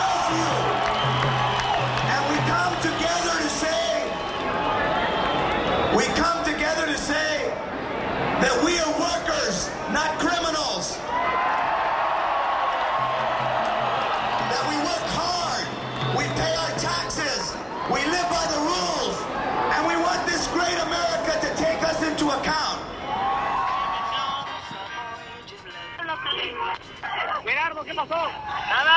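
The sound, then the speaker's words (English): A large outdoor crowd at an immigrant march near Los Angeles City Hall roars and chants "USA, USA", with loud, repeated swells of cheering and whoops rising over a constant wash of many voices, loud throughout. “Chanting USA, USA, Sotelo and the crowd responsively yelled, "We came to the country not to hurt it, but to get ahead."”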